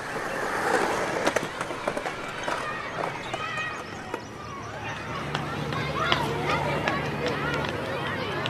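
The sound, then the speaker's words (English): A skateboard rolls steadily over pavement in a cul-de-sac as a father teaches his helmeted son to skateboard, its wheels clacking sharply over cracks at irregular intervals, with faint voices and outdoor ambience in the background. “Turn around and see a father gently teaches his helmeted son to cul-de-sac skateboard.”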